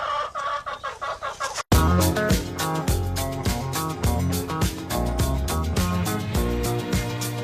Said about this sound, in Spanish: Porque los gallos cantan cuando quieren. ¿Quién no se ha pasado una bonita noche en una casa rural y a las 11 ha empezado a cantar el gallo porque se ha despertado?